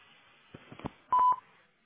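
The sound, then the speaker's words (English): A few soft clicks, then a single steady electronic telephone keypad tone beeps loudly for about a quarter second over a faint hiss, on a call to an automated voice messaging system, with no voices. “When you've finished recording, you may hang up or press 1 for more options.”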